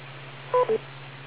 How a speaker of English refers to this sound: Wait for the beep.